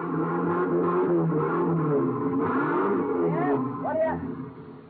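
truck engine revving

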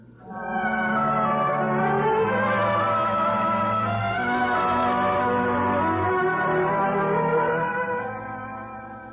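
church bells clanging

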